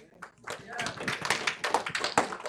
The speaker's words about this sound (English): Give the Lord, somebody's clapping, give the Lord a hand. Go right ahead.